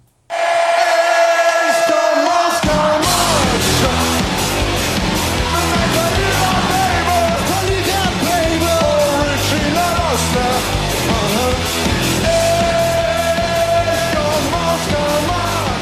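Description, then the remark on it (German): A huge crowd of about 65,000 at a benefit concert against racism and violence in Chemnitz, Germany, held under the motto «Wir sind mehr», roars and yells loudly and continuously over a steady rhythmic pulse, after a short quieter opening of a couple of seconds. “Unter dem Motto «Wir sind mehr» wollten die Künstler und die rund 65.000 Zuschauer ein Zeichen setzen.”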